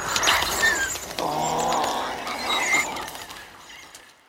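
Small dinosaur squeaks and squeals made from higher-pitched bird sounds and pitched-up lion sounds: a run of high, chirpy calls with a raspy, throaty edge, fairly loud, fading out at the end with no talking.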